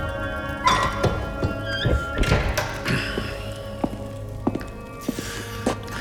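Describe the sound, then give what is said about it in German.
A door is pushed shut with a dull, solid thunk, among scattered footsteps and soft knocks and shuffles. “Mach die Tür zu.”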